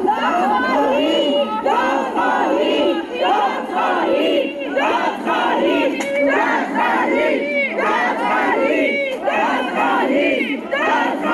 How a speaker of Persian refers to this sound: خانواده‌های قربانیان این حادثه با در دست داشتن عکس قربانیان و شاخه‌های گل در فرودگاه امام فریاد دادخواهی سر دادند. همچین فریاد بزنید دادخواهی و سقف به اینجا بلنده.